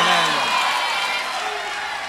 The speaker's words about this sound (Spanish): Y un aplauso enorme